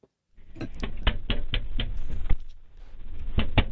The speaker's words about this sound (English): So here it is. Here's, first you'll hear the knocking.